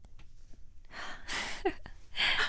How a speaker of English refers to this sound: Did you guys hear that little gasp? Aww.